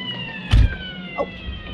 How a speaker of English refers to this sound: Oh, Simon, a police siren.